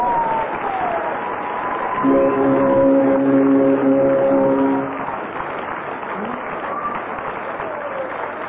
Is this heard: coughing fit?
no